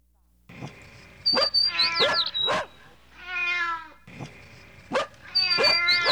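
A dog barks in short, sharp bursts, mixed with high whining calls and a drawn-out, wavering howl in the middle before the barking returns loudly at the end.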